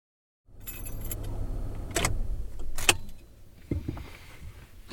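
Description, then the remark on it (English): A car engine idles with a low, steady rumble as the vehicle parks near a cafe when it is nearly dark, then keys jangle in a couple of short, bright bursts, followed by softer handling clicks. “It's nearly dark as I park near Carl's Cafe again. I stay in the car and answer some work texts and emails until it really is dark.”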